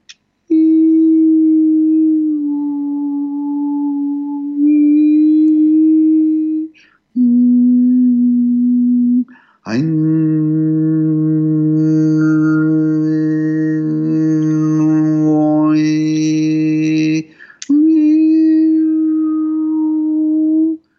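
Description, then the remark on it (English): Long, steady harmonizing sound healing tones with a sung quality, used for chronic pain throughout the body, sound in several held phrases. The middle phrase swells into a rich two-note chord with shimmering high overtones, and no talking is heard. “If you have chronic pain throughout the body that's kind of systemic, where it's not in a specific spot, what you could do is just a really beautiful harmonizing sound.”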